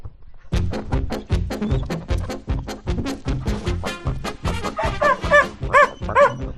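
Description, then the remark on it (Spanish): A dog barks repeatedly and rapidly in a continuous, loud flurry, with some higher yelping, whine-like barks toward the end. “Perro, madre mía, yo la que tengo aquí formada.”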